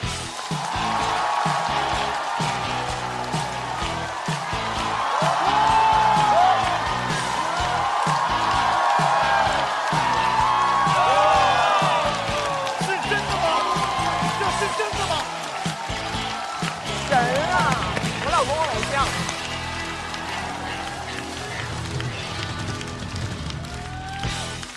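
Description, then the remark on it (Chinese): A large audience at the Chinese stand-up comedy show 脱口秀大会 applauds and cheers steadily for about twenty-five seconds as comedian Huang Xi is welcomed on stage: dense, loud clapping with shouts and a few high whistles, swelling in the middle and then easing off slightly toward the end. “让我们掌声欢迎下一位演员。”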